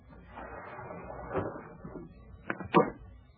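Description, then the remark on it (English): A window being forced open by an intruder: a low, grinding scrape and rattle of wood and frame, ending in two sharp knocks as it gives way, with no voices. “Hours later, I was sitting in an easy chair in a corner of the dark room, and I heard the window being forced.”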